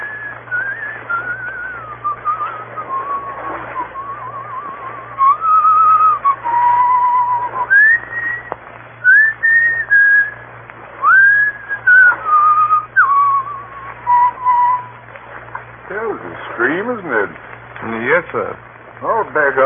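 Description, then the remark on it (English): A man whistles a slow, lilting folk melody, clear, with long held notes and gentle slides between pitches, over a faint steady hum; the tune ends in quick wavering trills. “He will pass the word Black Stone and whistle Annie Laurie.”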